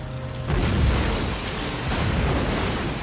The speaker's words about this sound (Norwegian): Plutselig høres en kraftig eksplosjon, og skrikene blir om mulig enda høyere. Brennende deler av flyet kommer flyvende I høy hastighet, og folk gjør sitt beste for å krype sammen og søke dekning.